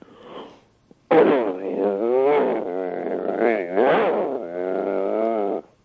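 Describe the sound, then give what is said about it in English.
A person growls like an aggressive dog: after a short breathy inhale, one loud, sustained, rumbling snarl lasts about five seconds, with nothing else around it. “So if I were your neighbor right now and I heard that sound, I'd back away from your door, right?”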